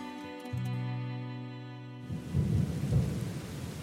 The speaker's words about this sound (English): The wind's picked up, starting to drizzle, and actually quite cold, isn't it? I feel like we have suddenly dropped in temperature quite drastically.